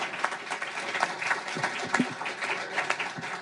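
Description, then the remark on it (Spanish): An audience applauds steadily, a dense wash of many hands clapping at once, fairly loud and continuous with no voices standing out. “Bueno, yo creo que el aplauso es para ella realmente, ¿sí o no?”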